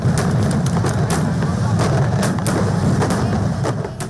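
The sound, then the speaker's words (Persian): A dense, steady barrage of Diwali (festival of lights) fireworks in New Delhi, with sharp cracks and pops bursting over and over on top of a constant rumbling roar, loud from start to finish. “تا لحظات بعد سر به دهلی نو میزنیم، شهری که در چند روز گذشته جشن دیوالی یا جشن نور را برپا کرد و میلیون ها تن آتش بازی کردند.”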